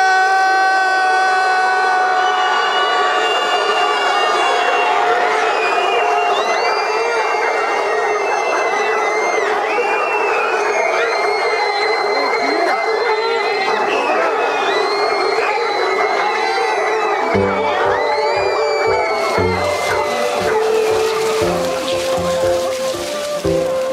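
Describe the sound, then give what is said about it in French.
A large group of voices yells together loudly and continuously, a dense sustained roar of shouting that fills the whole stretch, with a rough, pulsing texture creeping in near the end. “Alors, on va crier comme des humains. Moi, je veux que de leur château, ils nous entendent, ok ?”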